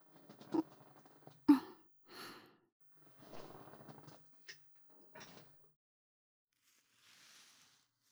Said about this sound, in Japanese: ではまた椅子の背もたれ倒させていただきますね。